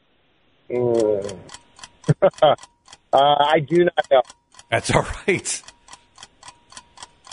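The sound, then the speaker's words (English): A quiz game timer clock ticks in a steady, even rhythm of sharp clicks throughout, while two people talk over it in short exchanges. “All right, there's the timer.”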